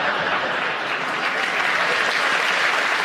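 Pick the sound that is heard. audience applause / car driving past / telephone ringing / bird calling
audience applause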